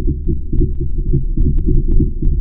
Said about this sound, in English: Marine geologist Bob Ziak also captured the sound of lava moving beneath the crater. We can hear that flowing, like, you know, water through a pipe, in this case, magma through a tube.